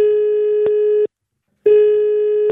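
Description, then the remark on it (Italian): A steady, buzzing telephone ringing tone of an outgoing call from Florence to a mayor's office, sounding in two long pulses separated by a short silence, loud with no voices. “Andiamo al telefono, sentiamo,”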